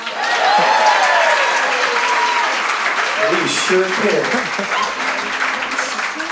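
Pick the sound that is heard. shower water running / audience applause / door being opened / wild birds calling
audience applause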